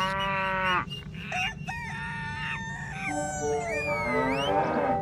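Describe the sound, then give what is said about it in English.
A noisy barnyard chorus: a rooster crows with long harmonic calls, overlapping with other bird cries and a low mooing, all steady and fairly loud over a dense rumbling background. “What are all these animals doing in here?”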